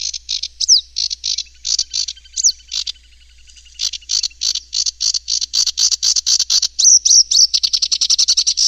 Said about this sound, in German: Die Vogelstimmen hat er alle in seinem Handy gespeichert.